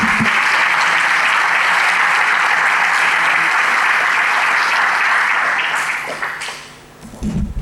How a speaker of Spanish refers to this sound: Dele bien fuerte ese aplauso al Señor.